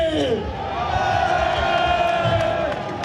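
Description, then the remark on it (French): A crowd of several hundred farmers cheers and shouts with joy after union representatives announce they won a vote, a dense, loud roar of many voices that holds steady for about three seconds, with scattered clapping mixed into the din. “Une phrase accueillie par des cris de joie et des applaudissements.”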